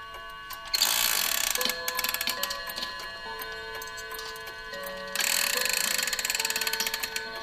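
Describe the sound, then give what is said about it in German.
An old grandfather clock is wound back with rapid ratcheting clicks and whirring gears, followed by steady ticking, fairly loud, with no voices. “Dafür muss ich aber gerade mal diese alte Uhr, diese alte Standuhr hier zurückdrehen.”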